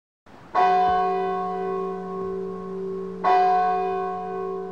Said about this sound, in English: Suddenly, a clock strikes.